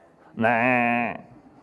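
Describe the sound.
A human voice imitates a sheep's bleat, one loud, sustained, quavering "baa" lasting under a second, with a quiet pause before and after.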